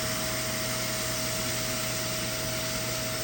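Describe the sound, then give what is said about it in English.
A portable upholstery spot-cleaner vacuum runs steadily while cleaning a couch, spraying its cleaning solution and sucking it up: a constant airy whoosh carrying a sustained mid-pitched motor whine and low hum, with no change in speed and no voices. “It's this like little vacuum thing that sucks up all the fucking scary shit that's inside of your bullshit”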